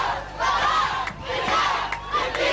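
A large crowd chants in unison, loud and rhythmic, voices rising and falling in repeated phrases with short breaks between each shouted line, in Tikrit, Iraq, the hometown of Saddam Hussein, protesting against his being held to account the day after his death sentence.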